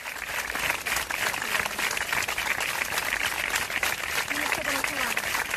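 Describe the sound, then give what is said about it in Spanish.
Hospital staff applaud steadily for Esteban, a colleague and ICU nurse at Hospital Severo Ochoa in Leganés, Madrid, who died of coronavirus: a dense, continuous wash of clapping that holds an even loudness from start to finish, with faint voices and a few tonal sounds underneath. “Son los aplausos, sentidos aplausos, que hace unas horas le dedicaban sus compañeros a Esteban, enfermero de la UCI del Hospital Severo Ochoa de Leganés, en la Comunidad de Madrid.”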